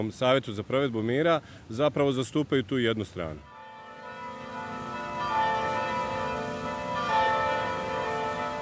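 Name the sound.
orthodox church bells ringing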